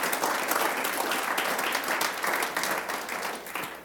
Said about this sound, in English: He is alive. Give him a hand clap of praise one more time.